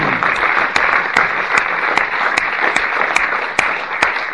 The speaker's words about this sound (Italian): Merita un applauso il dottor Di Matteo.